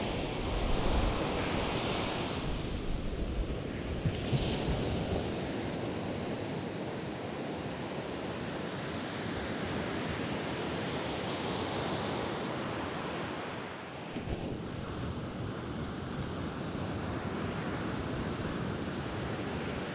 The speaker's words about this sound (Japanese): ここから先は湿ってますね。これ以上行くと寄せる波で足が濡れそうなので、この辺りまでにしましょう。